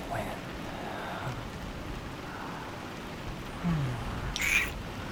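Steady rain falls throughout, a constant soft hiss and patter at an even level, with a brief bird-like call cutting through near the end.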